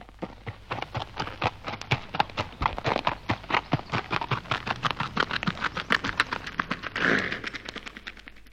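Rapid, steady clip-clop of imitation horse hooves, a long even train of sharp knocks at a trotting pace, fairly loud, with no voices.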